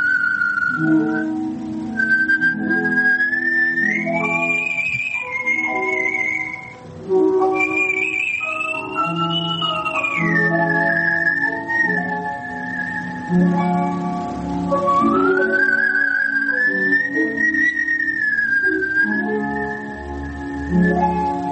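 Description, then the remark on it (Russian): A clear, pure artistic whistling of the Adagio from Swan Lake glides and sustains long notes over a steady instrumental accompaniment, the whistling loud and prominent throughout with no talking. “прозвучало «Адажио из Лебединого озера», художественный свист и аккомпанемент”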